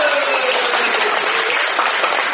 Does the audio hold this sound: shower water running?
no